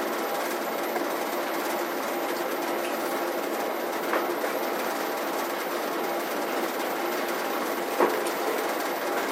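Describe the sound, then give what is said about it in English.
Continuous, dense clatter of keyboard typing as several people are still entering in, with many overlapping keystrokes forming a steady, even texture and a couple of slightly sharper clicks standing out. No one speaks. “Typing is going on still, so I have some people still entering in.”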